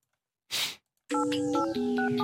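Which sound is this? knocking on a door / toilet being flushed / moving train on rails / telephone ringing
telephone ringing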